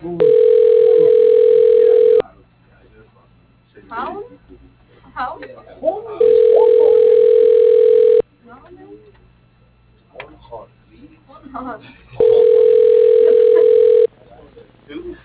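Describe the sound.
A phone line rings on the caller's end as a bank caller phones a business: three loud, steady two-second ringback tones spaced evenly apart, with quieter voices murmuring in the gaps between rings.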